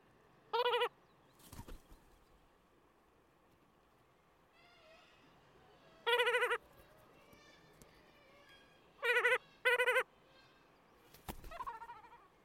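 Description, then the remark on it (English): Gulls give short, harsh chattering alarm calls in a few separate bursts, with quieter bird calls and a couple of sharp knocks in between against a soft outdoor background. “And then, as I collect the mic, this quiet chattering alarm from perch to birds.”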